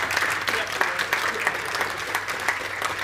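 A crowd applauds steadily, a dense patter of many hands clapping at an even level for a few seconds, with no voices standing out.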